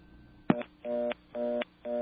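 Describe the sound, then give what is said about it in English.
A sharp click, then a repeating on-off telephone reorder tone from a Kellogg step-by-step switch after dialing 682 and then 9: steady buzzy tone bursts of about a third of a second, evenly spaced, fairly loud over line hiss, no talking. “That is a step reorder is what that's known as.”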